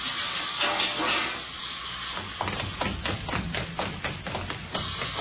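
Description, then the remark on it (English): Gas forming in a lamp chimney hisses steadily from a chemical reaction for a couple of seconds, then the hiss breaks into a quick series of about ten sharp crackling pops, moderately loud, with no voices. “The gas is forming.”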